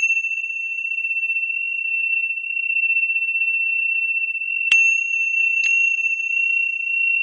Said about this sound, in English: Or, for example, I have in my hand a set of Tibetan bells, which I've had for 20 years. Listen, okay? Here they are.